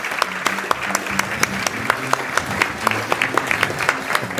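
An audience claps steadily for several seconds as a guest speaker is invited up, a dense patter of sharp hand claps with a few individual claps standing out, and a faint murmur of voices underneath.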